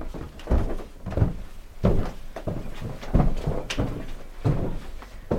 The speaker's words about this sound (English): There's a door, a cream door. I'm just walking through.